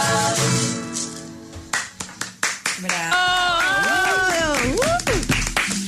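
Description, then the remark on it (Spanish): A sanjuanero song's final notes fade into a short burst of scattered handclaps from the audience, a handful of sharp claps over a couple of seconds, before voices take over and keep talking. “Ahí los están aplaudiendo a todas.”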